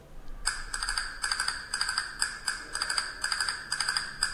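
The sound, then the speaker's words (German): A rapid series of sharp castanet clicks from a castanet recording that was MP3-encoded and decoded again, bright and clattering, about a dozen strikes in an irregular rhythm, each transient slightly smeared with a faint hiss just before it from MP3 pre-echo. “Das ist jetzt eine Kastagnette mit, im Grunde, Sie haben Stille und dann plötzlich haben Sie einen ganz starken Impuls”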